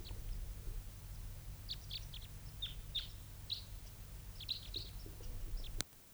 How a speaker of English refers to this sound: both birds calling there.